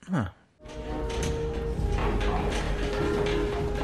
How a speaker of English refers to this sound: They're landing. The vessel is beginning its descent. Not only that, they're making a noise so loud it can be heard in the vacuum of space.